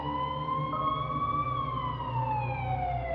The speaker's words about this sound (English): The ambulance arrived within minutes and took her to the hospital.